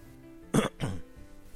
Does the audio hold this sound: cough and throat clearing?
yes